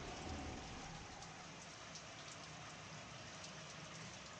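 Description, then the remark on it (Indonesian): Heavy rain pours down steadily over a garden, a dense, constant hiss of drops drumming on surfaces, with no voices and no pause in the downpour. “Hujannya deras sekali.”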